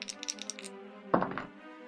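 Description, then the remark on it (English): A brief clatter of dice tumbling on a hard surface in a tabletop role-playing game, a roll plus steady for the character Ben that comes up 8, with a few light clicks followed by a sharper rattling burst partway through, fairly quiet, with no voices. “So this is going to be a face duress, and I'm only going to roll for Ben here because I think if Ben can make it in, he can guide Arid in as well.”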